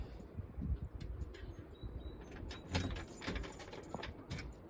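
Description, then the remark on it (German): A hotel entrance door is opened, with a rattle of metal and handle clicks over a low background rumble, a few sharp clanks standing out. No one speaks. “Ich stehe hier direkt vor der Tür und mache jetzt mal auf.”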